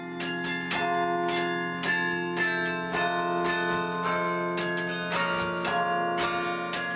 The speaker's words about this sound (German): Es ist ein Instrument, was einfach durch und durch geht. Es ist wirklich Klang pur, und wenn man sich an die Spielweise gewöhnt hat, an die Mechanik, dann badet man wirklich einfach im Klang von, wie hier in diesem Fall, 48 Glocken.